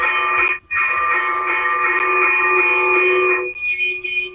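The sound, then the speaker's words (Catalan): A church bell rings the fast, urgent fire toll, used to alert village neighbours to a house fire, the strokes running together into a loud, continuous metallic clamor with one brief break near the start, no voices. “Llavors, el toc a foc, per exemple, doncs, es va, si es calava foc per una casa del poble, doncs avisar, doncs, que també els veïns vinguessin ràpid a ajudar, no?”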